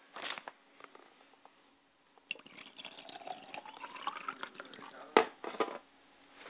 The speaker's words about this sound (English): I pour libations to the west, and I say, Ashe. I pour libations to the north, and I say, Ashe. And I pour libations to the south, and I say, Ashe.